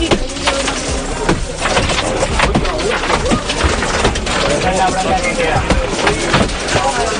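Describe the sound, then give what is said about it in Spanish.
A passenger knocks a safety hammer repeatedly against the window glass inside a high-speed train from Valencia to Madrid-Chamartín, sharp irregular hits over a steady rumble of train noise and murmuring voices. “Lo que has escuchado es un martillo de seguridad habitual en trenes o autobuses, que es lo que lleva a un pasajero a cogerlo y golpear los cristales de la ventana del tren.”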